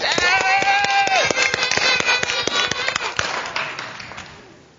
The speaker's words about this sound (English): And so you have to cheer real loud on three. Let's give them a big round of applause and cheer so that the puppets will come out. You ready? One, two, three.